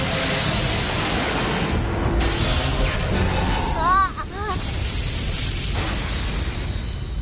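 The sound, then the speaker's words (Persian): A loud, sustained explosion sound effect marks the explosive finish of a battle, roaring and crackling for several seconds, with a brief whooshing, chirping flourish in the middle before the rumbling blast continues to the end. “مرد سمندر آتشین با پایان انفجاری.”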